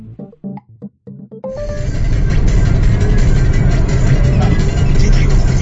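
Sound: inside a moving car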